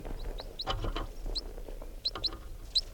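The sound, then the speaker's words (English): A wild male crossbill flying very low gives sharp, high chip calls, about eight short notes in loose pairs and triplets over low background rumble, with no talking. “And here's a male, wild male. That was a wild male. Flying real low.”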